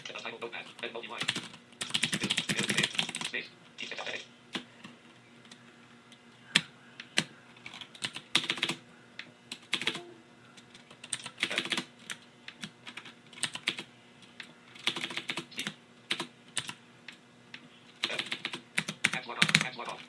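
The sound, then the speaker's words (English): Bursts of rapid, clicky keystrokes on a mechanical keyboard during a typing test in Notepad, crisp, arriving in irregular flurries separated by short pauses, with no voices present. “So, there we go, and we have our mechanical keyboard. Let's go into Notepad and do a little typing test.”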